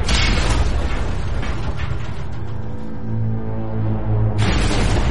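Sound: depth charges exploding underwater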